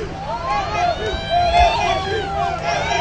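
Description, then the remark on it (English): Dense outdoor crowd chatter from tens of thousands tailgating and drinking beer at Tiger Stadium in Baton Rouge, Louisiana, on a warm fall day before an LSU Tigers game; many overlapping voices, a steady busy hubbub with occasional louder bursts and low rumble underneath. “On a warm fall day in Louisiana, tens of thousands converge on Tiger Stadium in Baton Rouge to tailgate and drink a little beer before cheering on the LSU Tigers.”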